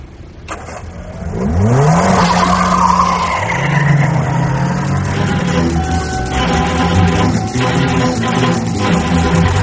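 A car engine revs hard and tires squeal as the vehicle skids and speeds off, the loud roar sustained with sliding pitch sweeps and continuing road noise, no voices.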